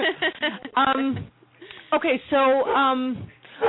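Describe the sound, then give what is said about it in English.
Dogs vocalize in a few short bursts, high, wavering whimpers and whines with sharper bark-like yelps, the sound thin and band-limited as if over a phone line. “The dogs are happy.”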